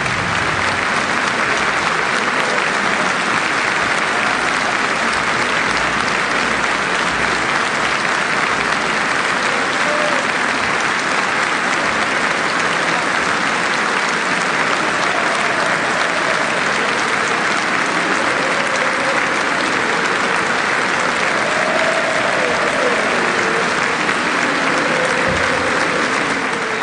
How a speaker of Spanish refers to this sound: Respetuoso sentido, ovación cerrada para Hugo Villaverde, que falleció esta semana